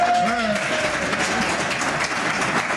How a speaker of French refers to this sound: Voilà, ça s'appelle les applaudissements pour notre amie Cécile de Minibus et bien sûr Philippe David, bien entendu, puisque c'est pour vous ces applaudissements.